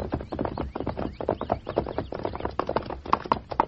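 Horse hooves pound the ground in a quick, steady galloping rhythm, moderately loud, continuing without a break and with no voices over them.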